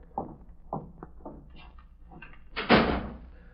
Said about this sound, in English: Go on out and shut the door.